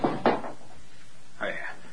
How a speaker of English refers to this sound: I'm sorry. I knocked the basin to the floor.